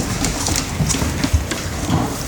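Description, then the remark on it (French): A homemade noisemaker called a drum kit, made from a piece of cardboard, a can, two bottles filled with hazelnuts and tape, and struck with a hammer, gives a steady, rain-like rattling hiss, broken by scattered low knocks and clacks for a couple of seconds, with no voices. “J'ai pris une bouteille, une autre bouteille, j'ai mis des noisettes, j'ai mis du scotch et j'ai pris un marteau et c'est ce qui fait que ça fasse un bruit.”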